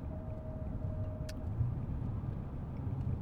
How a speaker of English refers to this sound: That's why we're talking about this in my car as I head west to work.